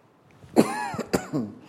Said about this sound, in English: Sorry, the coughs are creeping up on me a little bit this evening. I have about half a second warning before you do.